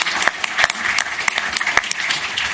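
A crowd claps in a steady round of applause, dense overlapping hand claps with sharp bright snaps standing out from the wash, fairly loud and sustained throughout with no voices on top.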